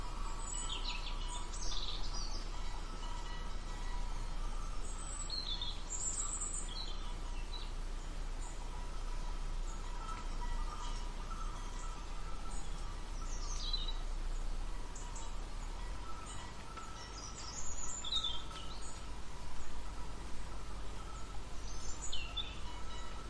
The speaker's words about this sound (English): Birds chimed in with merry tweets, a symphony so grand.